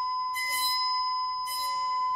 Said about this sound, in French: J'ai devant moi une plaque métallique carrée fixée par son centre. Je vais faire vibrer cette plaque grâce à cet archet. En vibrant, la plaque fera vibrer l'air et on va entendre un son. Voilà.